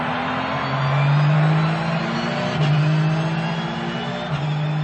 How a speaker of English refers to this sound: opened his window and floored the accelerator.